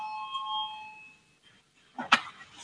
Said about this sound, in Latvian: Lūdzu zvanu, balsosim par pirmo valsts pārvaldes un pašvaldības komisijas iesniegto priekšlikumu.